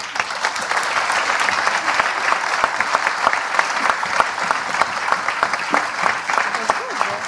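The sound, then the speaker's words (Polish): Steady applause from an audience, dense rapid clapping holding a fairly even loudness for several seconds with no voices standing out above it. “Brawa należą się także”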